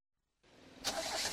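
After a brief silence, a car engine cranks without catching: a grinding starter whirr that turns louder and harsher partway through, with no voices.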